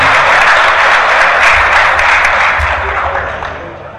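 Loud, dense applause from a large crowd of farmers in a pavilion welcoming a leader of the Confederación Nacional de Panicultores, a steady wash of many hands clapping at once that holds strong before tapering off toward the end.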